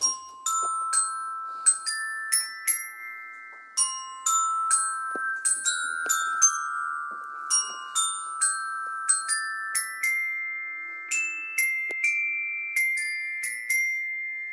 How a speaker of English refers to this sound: Is this the bit where you play your xylophone now? Yeah, exactly. It is.